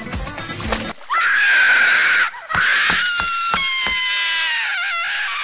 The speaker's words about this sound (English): Even as Goldie screamed, a tear never fell from her eye, for the liquid sealed duck shut and she could no longer cry.